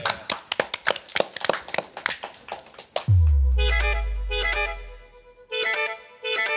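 Brief applause from a small group during a live Kulttuuri Ykkönen broadcast at the Oodi central library, about three seconds of scattered, crisp claps, then it stops as a musical jingle with a deep bass note and bright chiming tones begins.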